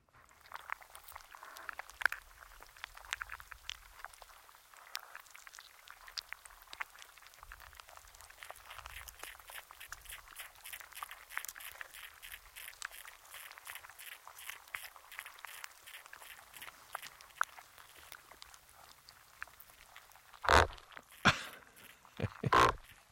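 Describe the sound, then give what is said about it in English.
Underwater recording from inside the mouth of a sea anemone in a tidal pool in Alaska. The anemone swallowed an underwater microphone and then expelled it: a steady bed of soft crackles and clicks with faint rhythmic ticking, ending in a few loud, rough thumping bursts. “Here's the sound inside the sea anemone.”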